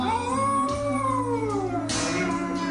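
A dog howls in long, wavering, rising and falling tones over steady background music, the howl loud and close and sustained through the whole stretch.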